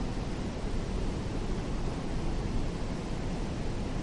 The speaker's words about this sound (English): So this creek or river here is running into Lake Superior.